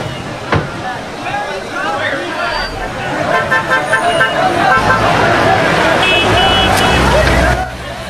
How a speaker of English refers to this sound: Cars drive along a tree-lined road.